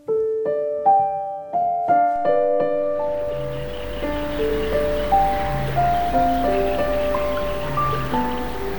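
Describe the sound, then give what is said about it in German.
Steady rushing wind through reeds on the shore of Lake Neusiedl in Austria rises after a few seconds and keeps up a broad, airy hiss, while soft melodic music plays throughout, clear at first, then partly blended under the breeze. “Am Ufer des Neusiedlersees biegt sich das Schilf im Wind.”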